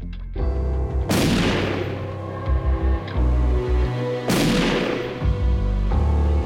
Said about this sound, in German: In der Nacht hört Jürgen Mertens 2 Schüsse.